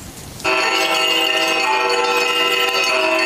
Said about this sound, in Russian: Звон колоколов возвещает в Хабаровске